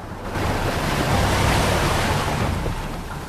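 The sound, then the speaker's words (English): Humpback whales surge to the surface through churning white water while bubble-net feeding on sand eels, a loud, continuous roar of frothing spray and bubbles that swells in after a brief quiet start and holds steady with no voices. “A broiling maelstrom of bubbles and white water. Then the sand eel's predators reach the surface.”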